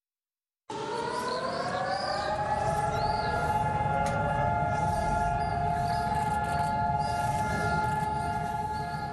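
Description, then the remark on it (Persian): A steady, sustained memorial siren wails continuously after a brief silence, holding a loud, unbroken tone with a low rumbling background and no voices. The siren sounds across all of Israel on a Tuesday, marking two minutes of silence in tribute to fallen soldiers and victims of attacks. “روز سه‌شنبه در سراسر اسرائیل این آژیر به صدا درآمد و تمام اسرائیلی ها به خاطر ادای احترام به 23,700 سرباز اسرائیلی و بیش از 3,000 قربانی حملات دهشت افغانی در اسرائیل برای مدت 2 دقیقه سکوت اختیار کردند.”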